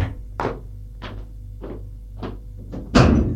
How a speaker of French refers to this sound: Il longe un long couloir et au bout du couloir se trouve une porte à deux battants capitonnée de cuir noir. L'hôtesse va ouvrir la porte.